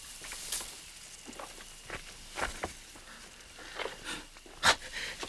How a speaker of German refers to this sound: Hast du das gerade gehört? Waren das nicht Schritte hinter uns?